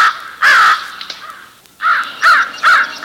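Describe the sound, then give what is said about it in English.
Crows caw loudly several times, harsh nasal calls in an uneven series: one early, then a quick run of three after a brief pause, with a faint outdoor background and no voices. “Crows and ravens can both be heard. Crows cawing.”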